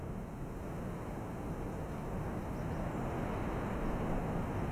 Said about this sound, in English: It's very, very windy, but is that normal?